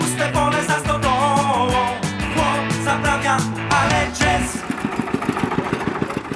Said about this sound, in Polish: A skoro mowa o dźwiękach, no to w czasie żniw oczywiście wszechobecny szum, warkot kombajnów i traktorów.